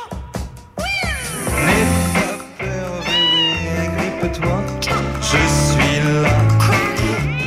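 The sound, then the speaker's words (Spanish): Several loud cat meows with rising and falling pitch, a few seconds apart, over steady background music with sustained tones and no talking. “Gato y gatas tiene.”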